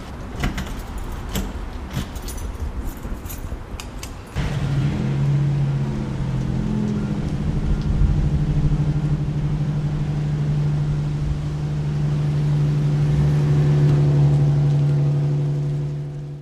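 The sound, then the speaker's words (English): A few seconds of clattering and rattling give way to the loud, steady low rumble of the engine of a university paratransit bus, the Razorback Paratransit, droning on and swelling slightly as it arrives and drives, with no voices. “Is this bus the university's bus?”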